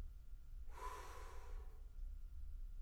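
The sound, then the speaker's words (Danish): A single airy breath lasting about a second, a soft rushing inhale or exhale against a quiet background, with no talking, as a person slowly straightens up after bending to touch their toes. “Slapper af skuldrene, holder hovedet, hagen ind til brystet, trækker vejret, en lang vejrtrækning, og det sidste retter sig op af hovedet, og så puster jeg ud.”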